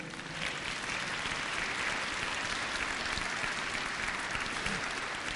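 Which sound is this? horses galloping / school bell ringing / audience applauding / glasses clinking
audience applauding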